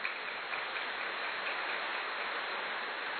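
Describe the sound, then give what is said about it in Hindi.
A crowd applauds loudly and steadily, many hands clapping at once into a dense, crackling wash of sound that holds at an even level throughout, with no voices. “हर कार्य में सहयोग के दांत जोर से ताली बजाओ।”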